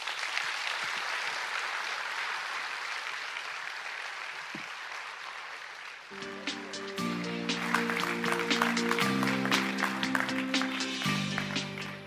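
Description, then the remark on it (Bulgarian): A crowd applauds politician Tomislav Donchev steadily, a dense wash of clapping throughout. Midway through, music with sustained low tones and bright accents comes in beneath the continuing applause. “Госпожи и господа, аплодисменти за господин Томислав Дончев!”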